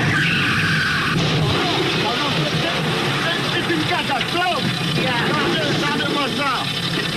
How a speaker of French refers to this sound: réécouter peut-être cette séquence mythique lorsque Bourvil conduit sa deux chevaux